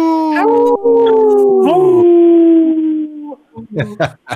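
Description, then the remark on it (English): A voice imitates a wolf howl: one long, loud howl sliding slowly down in pitch for about three seconds, followed by a few short, choppy vocal sounds. “This portion of the show is brought to you by Howling for Wolves, protecting wolves for future generations.”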